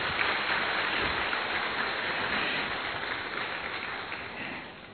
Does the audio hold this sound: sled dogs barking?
no